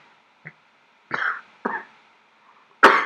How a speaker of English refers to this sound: That's real coughing, that's not in the poem.